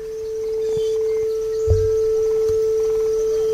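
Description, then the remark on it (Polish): A steady pure tone at A 440 sounds continuously, clean and unwavering, with a couple of faint low thumps in the background. “To jest 440 Hz.”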